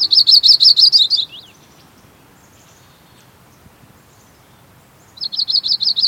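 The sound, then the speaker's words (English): A yellow-rumped warbler (Audubon's) sings two bright, rapid trilled phrases, clear, separated by a few seconds of quiet with faint background hiss. “Not so long ago, the bird we're hearing was known in the West as the Audubon's warbler.”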